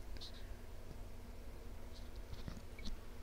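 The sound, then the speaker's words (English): Faint mouth sounds of someone sipping a drink: a few soft wet clicks and slurps spread over a few seconds against a quiet, steady background hum, with no talking. “Okay, I had another sip there.”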